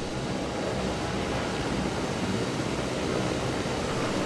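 A helicopter at a private rooftop heliport: a steady, loud engine roar, a dense whooshing wash with a low churning rumble underneath that holds unchanged throughout, with no voices.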